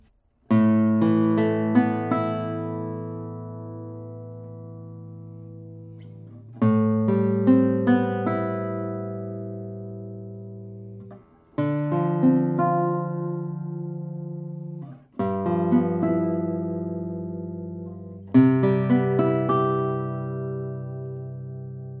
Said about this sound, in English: And this is a method that some guitar luthiers have used to give the guitar a bit more resonant and air. And yeah, let me play a few tones on it and you tell me if this guitar sounds airy or not.